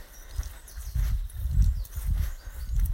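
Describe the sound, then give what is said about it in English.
Steady footsteps crunch down a driveway, a regular walking rhythm of soft thuds, with faint birdsong from deep within woodland and no one talking. “I'm just taking Jack out for a walk and I'm walking down the driveway.”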